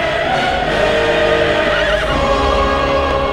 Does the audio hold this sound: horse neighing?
yes